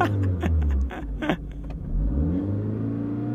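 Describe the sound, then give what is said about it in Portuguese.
A car engine rumbles loudly, revving and accelerating as the vehicle, taken without permission from the driver's parents, pulls away onto the road, its pitch rising and falling through gear changes with no voices. “Sem ninguém saber, Nuno roubou o carro dos pais para tentar impressionar Maria.”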